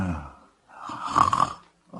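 A person snores, one long rasping, rattling breath swelling and fading, followed by the start of another after a short pause. No one speaks.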